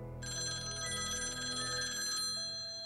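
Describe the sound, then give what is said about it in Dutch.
A telephone bell rings one evening in a continuous rapid metallic trill, clear, then stops near the end, leaving a faint low hum. “Maar op één avond, toen alles weer op het nippertje goed was gekomen, ging de telefoon.”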